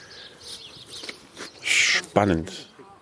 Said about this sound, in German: Die Vögel im Hintergrund sind ein bisschen surreal bei der Situation, ganz ehrlich.